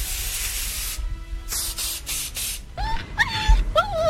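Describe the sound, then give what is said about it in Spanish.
Loud hiss of an aerosol air freshener sprayed into the eyes of Doberman dogs: one long spray, then three short bursts, followed by a dog's high-pitched whining yelps. “Les echan los ojos un poquito del ambientador que me regaló mi suegra, que lo compró en los callejones.”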